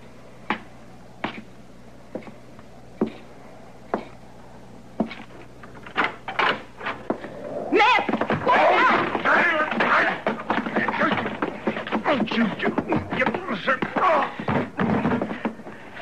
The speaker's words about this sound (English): Be quiet while I get over here and hoist this chair.